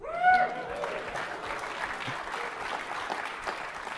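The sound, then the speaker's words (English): An audience at a technical talk on PowerShell and Windows Server 2012 breaks into steady applause, many hands clapping in a dense, even patter that holds at a moderate level throughout, with a brief voice-like tone at the very start. “Claps, please.”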